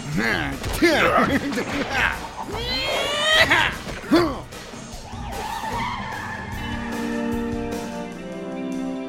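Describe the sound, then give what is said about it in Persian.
Loud tires squeal and skid in repeated high-pitched bursts as a car brakes hard, with engine noise and a sustained screech that settles into a steady rumbling drone. “این وسیله رو متوقف کن جاکر.”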